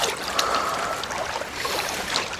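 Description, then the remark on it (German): Continuous water sloshing and splashing as a person learning to swim lies on the water, head up, moving arms and legs without being held, with a few sharper splashes breaking through a steady watery churn; no talking. “Aufs Wasser legen. Ja. Kopf hoch und die Arme und Beine bewegen.”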